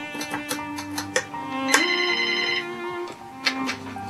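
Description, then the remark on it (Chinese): A melodic phone ringtone plays alone in a bright, electronic tune, its notes stepping and repeating with short sharp accents, moderately loud, signalling an unexpected incoming phone call. “几个月后，我意外地接到王叔叔的电话。”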